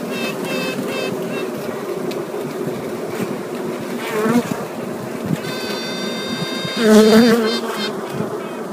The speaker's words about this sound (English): Now, a few of her sisters who have also been raised to be queens but are still sleeping in their little cells, they just snoozed a little longer. They respond with a noise called quacking. It sounds like a duck honk.